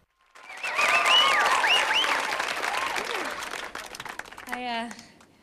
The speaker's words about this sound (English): Vic applauds proudly. … claps and whistles enthusiastically.